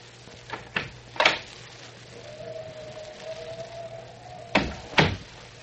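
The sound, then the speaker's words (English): A door opens: a few quick latch clicks, a long steady hinge creak, then two sharp knocking thumps as it settles. No voices. “There she goes to the door.”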